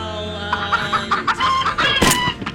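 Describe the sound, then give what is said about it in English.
A chicken clucks in a quick series of short, nasal calls, followed by a sudden louder squawk near the end. No one speaks. “What was that? It's a chicken.”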